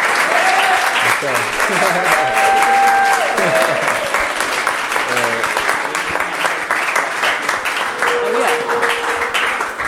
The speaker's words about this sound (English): Well, congratulations on the collection and the lookbook and the pop-up. It was really dope. Thank you. Y'all want to give him another round of applause?